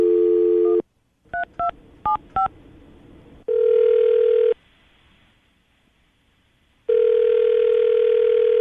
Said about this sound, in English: All right, well, we'll call her, see if we can get her on the phone, and get your second date update.